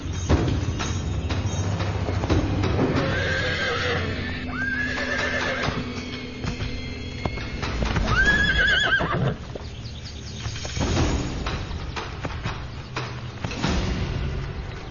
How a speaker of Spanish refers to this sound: Si se ignoran las advertencias, los caballos salvajes comienzan una dura batalla. Una fuerte patada puede romper huesos.